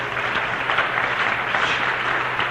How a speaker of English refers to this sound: I want to say, yes, clap for her.